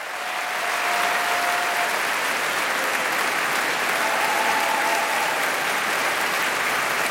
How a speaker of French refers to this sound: On peut sentir aux applaudissements que les Anglais les aiment, leurs BBC Singers.